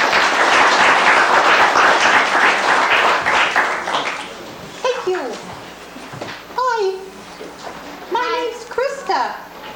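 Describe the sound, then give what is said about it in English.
A loud, dense burst of audience applause at a puppet show lasts about four seconds, then tapers off as several high-pitched voices call out and talk over the last scattered claps. “So let's give a round of applause to our...”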